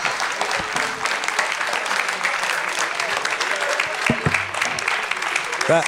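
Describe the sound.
An audience applauds steadily for several seconds, a dense, even wash of many hands clapping at a fairly loud level, with a few brief voices surfacing toward the end.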